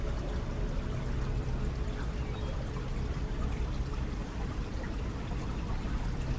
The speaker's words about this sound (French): Vous êtes sur la berge et son espace s'agrandit. La rivière est maintenant à quelques mètres devant vous.